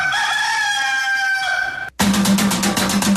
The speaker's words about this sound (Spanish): El gallo es una chimba.